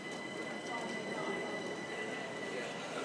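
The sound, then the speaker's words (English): A train carrying mostly runners rolls steadily along the rails, a continuous rumble laced with thin, high-pitched metallic whining that holds unchanged for the whole stretch. “I always feel a little bit guilty, actually, coming through on these trains because it's largely runners, and I always feel like we're taking up a bit of space that they should have, but spectators also make the day what it is, so that's my excuse.”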